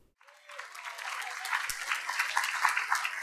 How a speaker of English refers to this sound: Thank you. That applause was for you